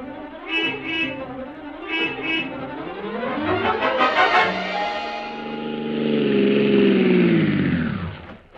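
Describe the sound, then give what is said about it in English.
A taxi's engine turns over and revs, its pitch climbing in a rising whine, then settles into a steady loud drone as the taxi pulls away and the sound falls off at the end. “Sergeant, get a taxi. We're leaving immediately for the Columbia Broadcasting Studios.”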